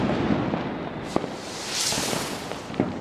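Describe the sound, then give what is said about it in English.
Firecrackers and fireworks set off during Diwali in New Delhi, India, crackle and pop against a dense, noisy background, with a few sharp louder bangs standing out amid continuous bursts. “It's estimated some 50,000 tons of fireworks are exploded during Diwali, which marks the homecoming of the Hindu god Lord Ram from exile.”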